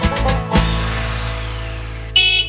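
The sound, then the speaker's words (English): A school bus horn blares in one long, steady, loud honk after a couple of short bursts at the start, with no one talking. “There's the bus.”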